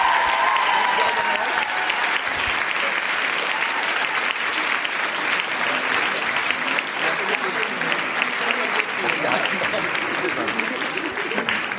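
Sustained applause from a large concert audience in Cologne (Köln), a dense steady wash of clapping that stays loud for the whole stretch, with cheers and shouts mixed in and a brief high whistle at the start.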